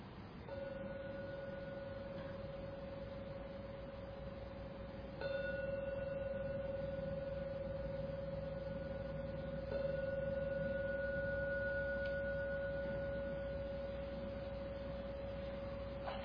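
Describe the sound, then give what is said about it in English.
A gong is struck three times to conclude a meditation, roughly five seconds apart, each stroke blooming into a steady, sustained mid-pitched hum that carries on to the end. No one speaks. “Now ring the gong 3 times to conclude the meditation.”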